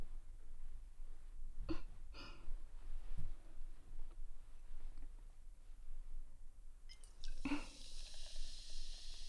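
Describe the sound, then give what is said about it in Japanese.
Carbonated juice being poured: a couple of brief splashy bursts, then a steady bright fizzing hiss building toward the end, with quiet low rumble underneath and no talking. “炭酸ジュース、美味しいよね。入れる時のシュワシュワって音、大好き。”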